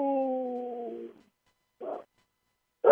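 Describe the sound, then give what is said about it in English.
A big dog lets out a steady, low howl lasting about a second, sliding slightly downward and fading, followed by two short, rough bursts of sound after brief pauses. “Our big dog, he likes to howl.”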